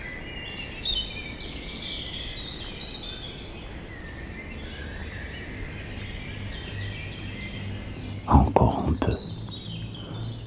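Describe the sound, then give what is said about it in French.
Several birds sing and chirp continuously in high, overlapping phrases over a soft outdoor hiss, with a brief louder rustling burst near the end. “Une pensée d'oiseau.”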